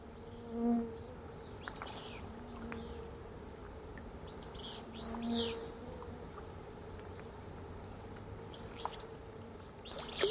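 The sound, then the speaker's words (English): A steady, droning hum of many insects swarming near the surface of a remote mountain lake in the late afternoon, where trout rise to feed on them, with a few brief swells where one flies past louder, and faint songbird chirps in the distance. “Insects are swarming near the surface of the water, and the trout rise up to feed on them.”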